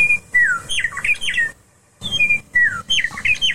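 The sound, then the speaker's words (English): A meadowlark sings two bright, fluting phrases of slurred, warbling whistles separated by a short pause, clear over a low rumble of background noise. “But when we come back, I'd like to have you give us some ideas on what people are actually doing out there to grow food and still allow for the song of the birds. Like, for example, meadowlark.”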